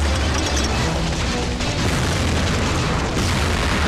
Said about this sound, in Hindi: 11 जुलाई 2006 Mumbai train में बम विस्फोट।